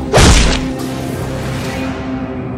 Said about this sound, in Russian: Посылаю воздушный шлепок по попке.